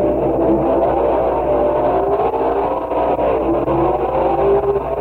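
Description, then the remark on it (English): A loud stock car engine roars steadily for several seconds at Detroit Dragway, its pitch climbing and falling as it revs hard, with a continuous mechanical drone and no voices. “The National Stock Car Championship.”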